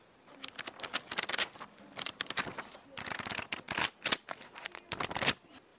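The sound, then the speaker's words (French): Pages of a rough-draft notebook being flipped quickly, a series of crisp papery riffles and flutters in uneven bursts, with no voices. “C'était le cahier de brouillon que l'on feuillette.”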